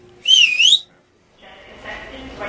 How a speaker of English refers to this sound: Her dad told her she would need a powerful whistle to do the job. Oh, you don't even want to hear it. I'll blow you out of the room.